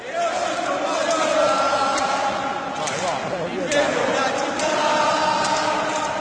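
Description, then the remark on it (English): A large crowd of Napoli football fans sings the Italian version of a chant together, in a video of Gonzalo Higuain dancing with the fans. It is a loud, steady wall of massed voices with a droning melodic line, and occasional sharp claps or shouts cut through. “So they're actually singing the Italian version, the same song that the fans.”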